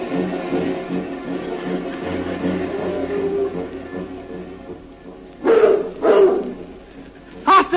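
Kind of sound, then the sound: animal, dogs barking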